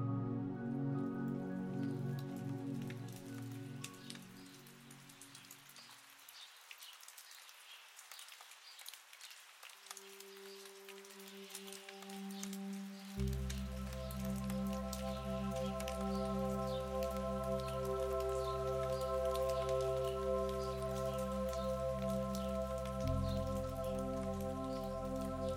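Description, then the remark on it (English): Steady rain patters softly and continuously as a gentle passing shower falls over the trees of a dense green forest near a small town. Low sustained musical tones swell and shift beneath it throughout. “Soft grey clouds are beginning to clear as a passing rain shower fades over the horizon.”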